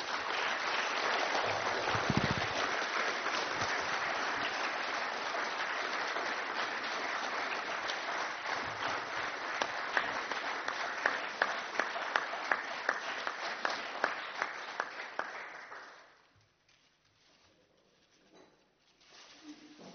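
An audience at a council farewell applauds steadily for about fifteen seconds as a numbered artwork with a certificate of authenticity is presented, a dense wash of clapping with a few sharper claps standing out near the end before it dies away into quiet.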